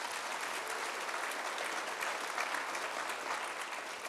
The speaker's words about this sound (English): And so on behalf of them, did I hear a clap? I think you can clap for that.